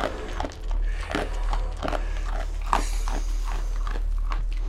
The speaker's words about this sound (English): is the sound of the bear cub eating out of his hand.